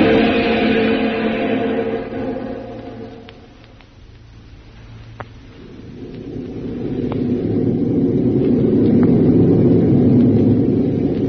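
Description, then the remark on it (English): Loud, steady droning of the engines of a homeward-bound army transport plane in flight toward the USA, a dense rumbling roar that dips quieter midway and then swells back up to full strength. No one speaks. “Now back to a homeward bound Army transport plane and Jungle Jim.”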